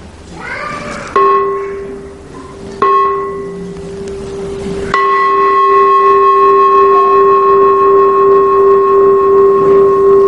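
A communal temple (đình miễu) bell, not a pagoda bell, is struck three times in quick succession, each strike layering onto the previous one into a loud, sustained ringing tone with bright overtones that does not fade.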